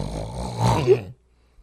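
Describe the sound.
A person makes a single drawn-out, raspy snoring noise with their voice, rough and nasal, lasting about a second before cutting off into silence.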